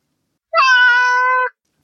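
A single drawn-out cat meow, close and fairly loud, lasting about a second with a steady harmonic tone, followed by silence and a faint brief click at the end.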